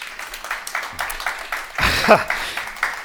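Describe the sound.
A short burst of audience applause, a steady patter of many hands clapping for about three seconds, swelling briefly in the middle where a voice or cheer rises above it.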